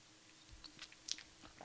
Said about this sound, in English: You didn't shudder. You took a sip and you didn't shudder.